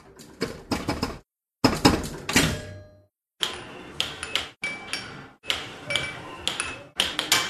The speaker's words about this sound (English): So I had to go in and individually for every little puck bounce of the air hockey and everything, add in the second layer, which I call hard effects, which is basically sound effects that match some kind of action on screen.